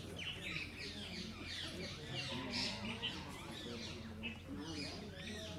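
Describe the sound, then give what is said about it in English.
A busy chorus of birds chirping and tweeting nonstop in the trees at a temple beside the flowing Jamuna river, many overlapping calls, over a steady low outdoor rumble. “All the trees and birds and Jamuna's flowing by.”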